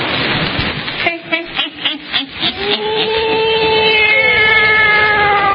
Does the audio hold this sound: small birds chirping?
no